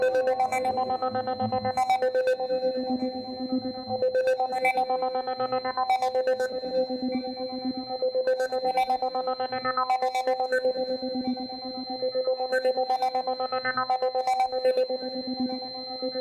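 A telephone rings with an electronic, melodic ringtone, its short tonal phrase repeating about every two seconds at a steady, moderate loudness throughout, with no voices.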